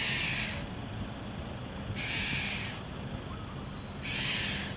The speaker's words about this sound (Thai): เราก็พอจะได้ยินเสียงร้องของเหล่านกอพยพแม้จะยังไม่เห็นตัวเราก็พอจะรู้ได้ว่าฤดูกาลใหม่กำลังมาถึงแล้วเช่นนกขมิ้นท้ายทอยดำนกตัวสีเหลืองสดที่มีแถบสีดำขนาดใหญ่คาดตรงใบหน้าไปจนถึงท้ายทอย